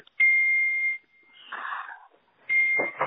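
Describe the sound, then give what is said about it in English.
A shrill electronic beep from a phone rings out loud, repeating in long, steady pulses with a muffled rustling noise in between, the phone going off again and again. “What is that noise in your background? My phone is going off crazy.”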